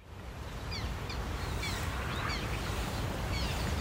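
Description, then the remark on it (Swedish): Repeated thin, whiny calls of black terns ring out in short downward-slurred bursts over a steady low wind rumble, several birds calling with no speech, in Kristianstad Vattenrike. “Om man hör det här gnälliga lätet, då är det dags att kolla uppåt.”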